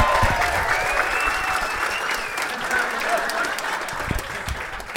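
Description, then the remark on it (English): A crowd at the Punchline bursts into sustained, loud applause for the staff, many hands clapping in a dense, steady wash that holds for several seconds with a few cheers mixed in. “Yeah, let's hear it for the staff here at the Punchline.”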